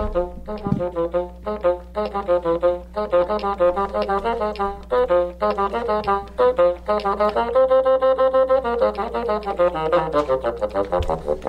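A bassoon plays a solo melody alone, a quick run of short, detached notes giving way to longer held tones, reedy and mid-pitched at a steady, moderate volume.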